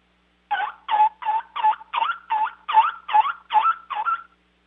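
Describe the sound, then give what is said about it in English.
A turkey call imitates a hen turkey's yelping: a set of about ten raspy, evenly spaced yelps in quick rhythm, stepping up in pitch as it goes, fairly loud, with no talking. “Well, it makes the sounds of the hen turkey perfectly.”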